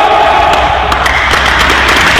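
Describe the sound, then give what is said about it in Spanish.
A large crowd shouts an unofficial cheer for Mexico, "¡Una, dos, tres! ¡Aguante, México!", in unison, loud and sustained for a couple of seconds, with sharp bursts punctuating the dense roar of voices. “¿Listos? Grito no oficial.”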